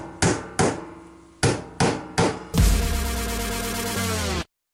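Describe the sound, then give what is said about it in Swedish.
Five sharp hammer blows ring out in an uneven rhythm, followed by a loud sustained metallic grinding noise that cuts off abruptly. No voices. “Varför är det någon som hamrar på HIV och AIDS?”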